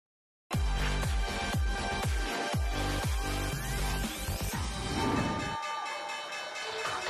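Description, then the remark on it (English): A stock exchange trading-floor closing bell rings as a gavel is brought down to end the session on the Wednesday before Thanksgiving: a loud, steady metallic tone layered with rapid rhythmic clangs and heavy strikes, over a dense roar of crowd noise and cheering. “And that is the way to bring down the gavel on the closing bell.”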